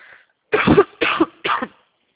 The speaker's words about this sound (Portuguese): Desculpa, tô uma tosse que não passa.